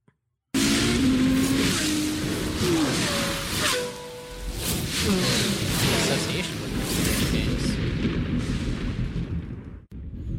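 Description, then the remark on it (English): Loud car engines rev and roar continuously for about ten seconds, pitches rising and falling over a dense wall of noise, before cutting off abruptly near the end. “It's a little loud when it starts because engine noises. Cars.”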